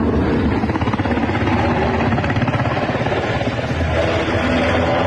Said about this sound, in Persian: هلیکوپترهای متعدد در فضای کابل در حرکت هستند و گمان می رود که دیپلمات های سفارتخانه های مختلف و نیروهای خارجی را به میدان هوایی کابل منتقل می کنند.